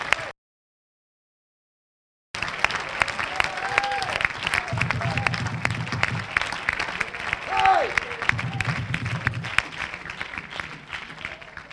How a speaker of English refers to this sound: Let's praise the Lord. Clap your hands unto it.